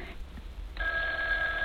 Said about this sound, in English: Oh, what's that? Oh, it's the phone ringing, Mother. Well, answer it. It sounds so... far away.